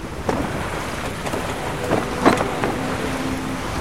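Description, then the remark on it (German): A sailing ship at sea, with a steady rush of wind and water and a few creaks and knocks from the hull and rigging, continuous with no voices. “Also baute ich den Altar ab, lud ihn auf mein Schiff und wir segelten davon.”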